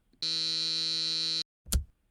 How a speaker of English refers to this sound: but I'm just gonna buzz on Sammy's apartment and ask him to let me in.